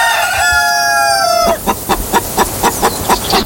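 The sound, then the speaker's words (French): A rooster's drawn-out crow ends abruptly, followed by a hen's steady series of about eight short, evenly spaced clucks, all clear with no voices. “Et chaque jour, une poule nous pond un chiffre.”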